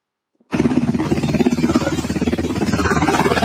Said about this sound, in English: They are landing a medevac helicopter, dude, to take a dog to the hospital.